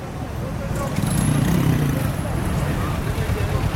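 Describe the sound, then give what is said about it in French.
Busy street ambience at Omonia bus station, where buses depart in various directions, including northern Greece and the Macedonian border: a steady low rumble of idling and passing engines fills the scene, with indistinct crowd chatter mixed underneath throughout. “Omonia, station Omonia, qui est l'endroit d'où partent les bus vers les différentes directions, et notamment le nord de la Grèce et la frontière macédonienne.”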